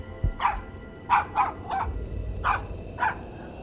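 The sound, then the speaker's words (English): A dog barks six times in short, sharp bursts with uneven gaps, moderately loud, over a low steady background rumble. No one speaks. “Come sit down, silly dog. There's nothing to worry about.”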